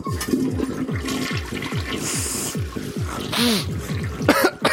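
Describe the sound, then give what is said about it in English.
A toilet flushes in a restroom with stalls, a loud, steady rush of water with gurgling and sputtering bursts that carries on for nearly five seconds before swirling and tapering near the end. “Oh, we need one more flush in here.”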